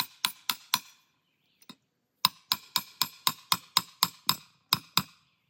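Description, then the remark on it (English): Sharp metallic hammer strikes ring out as a trap is hammered into hard ground: four quick blows, a pause with a faint tap, then a steady run of about ten evenly spaced hits. No one speaks. “Now this ground's pretty hard. So what we're going to do is we're going to go ahead and hammer this trap because it needs to be setting up.”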